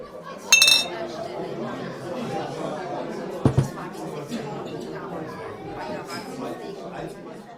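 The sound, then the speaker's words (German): Glasses clink together twice in a toast, sharp bright chimes near 0.5 and 3.5 seconds, set against a steady murmur of voices and background chatter. “Und weißt was, ich darf sagen, da drauf trinken wir jetzt erst einmal einen Schluck, oder? Das darf ich auch sagen. Also, Prost! Prost.”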